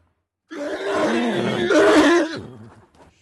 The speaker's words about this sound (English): They can emit sounds as well and have a variety of vocal communication signals. A squeal or scream usually denotes a threat by another horse.